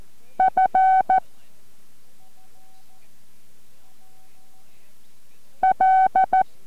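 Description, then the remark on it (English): Morse code tones keyed out in two quick groups of short and longer buzzy beeps at a steady mid pitch, separated by a stretch of near silence with a faint hum. “Don't look at your paper that you have all those dots and dashes written down on. Just keep copying.”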